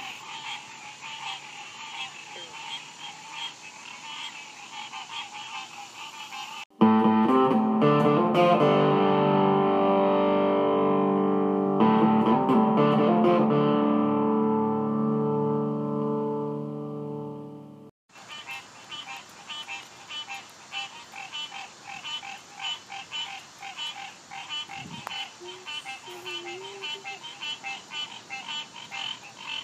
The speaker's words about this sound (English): I'm overlooking a pond in my apartment complex, and let the mating season or the cat calls, frog calls, whatever is going down below me, get on it.